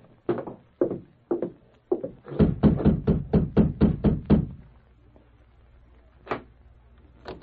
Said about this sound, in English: He watched for a time to make sure Dr. Martin was alone, then advanced and rapped on the door.